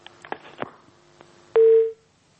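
A phone line cuts off: a few faint clicks and crackles, then a loud, steady electronic tone holds for about a third of a second before the line goes silent.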